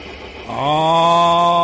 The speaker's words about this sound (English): Let's get those tractors starting. It's Tractor Wars here in our pledge drive for this fall.